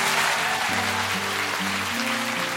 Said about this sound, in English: And I'd love it if you could all give a massive round of applause to our first podcast today, Catherine Gray.